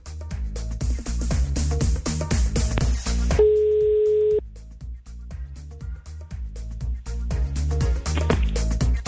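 A single steady ringback tone sounds for about a second as a Radio Plus host calls out to a listener, clear and fairly loud over continuous rhythmic background music, with no one talking.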